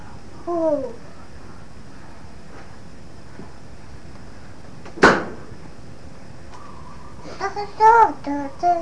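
A refrigerator door is pushed and knocks once with a sharp thud, while a small child babbles softly before and afterward.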